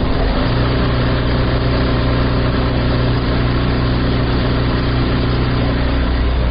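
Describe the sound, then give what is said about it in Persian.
Embroidery machines run nonstop as tailors and embroiderers work at them in Sheberghan, less than five days before Eid al-Adha, a loud, steady mechanical drone with a low humming whine and busy rattling texture underneath, unchanging throughout, with no voices. “در این شب و روزی که کمتر از 5 روز بر عید سعید قربان مانده، خیاطان و گلدوزان نیز مصروف کار در عقب ماشین های گلدوزی نشسته و برخی دیگر در اتوکاری و بسته‌بندی کالاهای عیدی دیده می شوند.”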